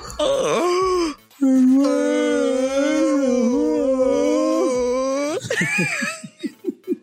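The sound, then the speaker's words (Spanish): Voices imitate whale calls as a farewell, holding their noses and yawning, with long, wavering moans that swoop up and down in pitch, one sustained low tone holding for several seconds, then trail off into short rhythmic bursts of laughter. “Vamos a despedirnos en cetáceo, ¿te parece?”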